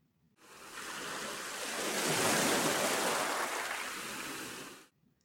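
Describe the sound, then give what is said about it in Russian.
A single ocean wave rushes onto the shore, a broad hissing surge that swells to a peak and then washes back and fades, with no voices. “Волна вынесла ёжика на берег.”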